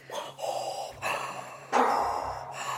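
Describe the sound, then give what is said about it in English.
A voice mimics heavy, mechanical respirator breathing like Darth Vader's: slow, rasping inhales and exhales in about three or four loud cycles, with no talking. “Is it wind or breathy? It's like Darth Vader.”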